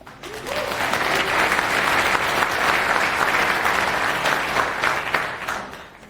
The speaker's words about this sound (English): So applause!